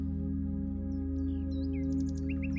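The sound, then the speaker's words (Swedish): Scattered small birds chirp and trill softly, a quick run of repeated tweets near the end, all floating above a steady, low humming drone with no one talking. “Fåglarna kvittrar och fjärilarna dansar från blomma till blomma.”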